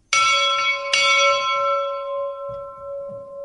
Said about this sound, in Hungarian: mert ott is figyelték a környéket, hogy mikor üt ki tűz, és akkor azonnal tudtak jelezni, ez a jelzésére szolgált. Ebben akkor már nem volt harang, amikor idehozták, de szereztek hozzá egyet, és akkor így működik, a gyerekek meg szokták kongatni.